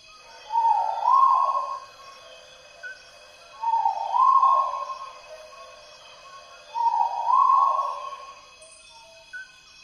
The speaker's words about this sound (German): So klingt ein Argusfasan, ein ganz scheues Tier, was auf dem Waldboden des Regenwaldes herumläuft.